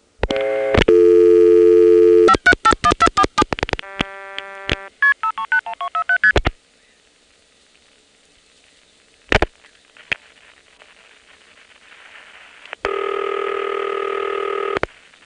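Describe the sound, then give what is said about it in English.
Rapid bursts of multi-frequency (MF) telephone tones dial a number on a call to a number 1 crossbar office in Falls Church, sent over the Arlington trunk, followed by a quiet pause with a couple of clicks, then a steady ringback tone near the end; no one speaks. “Here's a call to a number 1 crossbar office in Falls Church.”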